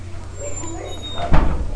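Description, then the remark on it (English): A door is pushed open and held, with a single muffled thud and rattle near the end, preceded by low room hum and faint background murmur. “Can you hold the door for me”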